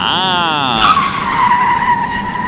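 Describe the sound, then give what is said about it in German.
An airport follow-me car skids with loud, screeching tires, a sharp whine that bends in pitch before settling into a sustained squeal lasting a couple of seconds. “Was ist jetzt schon wieder mit dem armen Follow-Me-Auto?”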